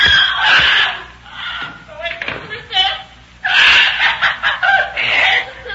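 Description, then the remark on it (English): A parrot squawks and chatters in loud, harsh bursts, with a brief pause in the middle before a longer string of raspy, voice-like cries. “Now for you, you squawking bird.”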